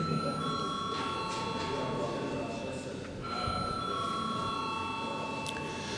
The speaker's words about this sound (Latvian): Paldies, lūdzu zvanu.